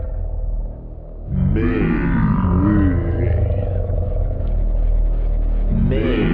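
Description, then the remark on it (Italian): A deep, monstrous breathing effect, called the breath of Zul, made for a new announcement for the MEI: heavy low rumbling inhales and exhales with growling, grunting texture, loud and sustained for several seconds, with a brief quieter dip early on and no talking. “Senti il soffio vitale.”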